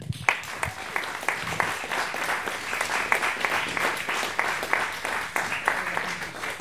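Sustained audience applause fills the room, dense rapid clapping from many hands at steady loudness for several seconds, with a few faint voices mixed in.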